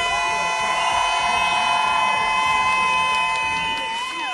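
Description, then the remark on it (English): A loud crowd cheers and applauds continuously for the poets who competed in a poetry slam, with steady horn-like blaring tones and whistles sounding over the roar for the whole stretch. “All right, first, let's give a big round of applause to all these poets.”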